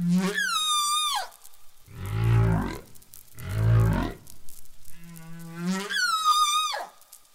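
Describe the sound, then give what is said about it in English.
Humpback whale song recorded at wintering grounds in the South Pacific: long, eerie tonal calls that sweep and wail, alternating with deep rumbling groans, unfolding slowly in a repeating pattern with no voices present. “Even though that song was new, it had spread rapidly through multiple whale populations, replacing the old tune.”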